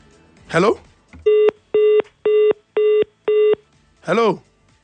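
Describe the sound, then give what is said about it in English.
Telephone tones as a caller's call connects to a radio phone-in programme: five short, identical electronic beeps in an even, steady rhythm, fairly loud, with a brief voice-like sound just before and after. “I will just carry on with the phone calls.”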